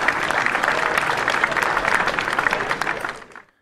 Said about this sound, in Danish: Ja, det I hører I her, det er medlemmerne af parlamentet i Rusland, der klapper. De har her den 10. marts godkendt forslagene til at ændre forfatningen.